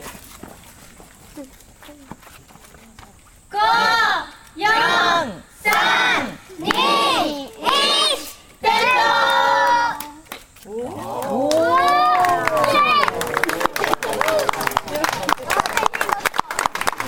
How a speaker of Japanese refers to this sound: 一緒にカウントダウンのお声掛けのご協力をお願いします。5、4、3、2、1、点灯と言います。 JTH の皆様に負けない大きな声でお願いいたします。それではカウントダウンを行います。皆様一緒にお声と声援をお願いいたします。